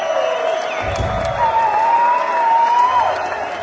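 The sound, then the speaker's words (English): A concert crowd applauds steadily with dense, continuous clapping and cheers, while a long, piercing whistle rises above the noise for a couple of seconds, at a live show recorded in 2012 at Penn's Peak in Jim Thorpe, Pennsylvania. No one speaks. “Give us a hand,”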